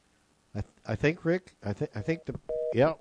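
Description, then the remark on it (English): A brief, steady electronic phone-line tone sounds for a moment near the end, like the signal after a call drops, amid people talking. The cell phone call dropped because the caller's battery died. “I think the magic of the cell phone. Yeah, I think his battery died.”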